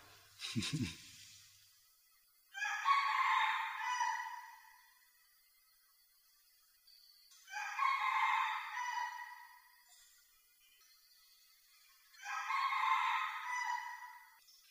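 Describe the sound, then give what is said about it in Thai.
A rooster crows three times, each long, loud call rising and trailing off, spaced about five seconds apart, with a brief thump at the very start and quiet between crows. “ไก่ตัวนี้เสียงดังดัง”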